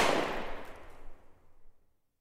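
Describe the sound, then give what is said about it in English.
A single gunshot cracks out sharply, then its echo rolls away and fades over about two seconds. Nobody speaks. “His father reached for the Glock. Then came the gunshot.”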